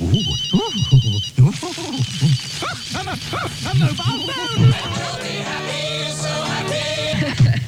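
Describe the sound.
A mobile phone rings with a rapid, high electronic trill for about a second. A voice then sings or talks in a bright, melodic way over busy sounds.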